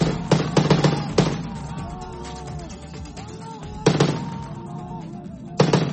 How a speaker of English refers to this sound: The sound of Syrian rebels shooting down a government helicopter Tuesday in the country's northwest, where opposition activists say Syrian troops are on the offensive in the last rebel stronghold.